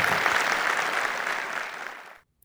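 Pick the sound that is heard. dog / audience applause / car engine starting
audience applause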